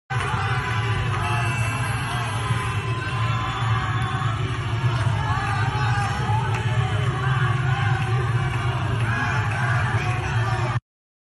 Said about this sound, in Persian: کرمانشاه صدای کرمانشاه کم هست. بریم مرگ بر خامنه ای رو ببینیم. همه اومدن خیابون، ماشینا بیرون اومدن، دست میزنن، مرگ بر خامنه ای میگن.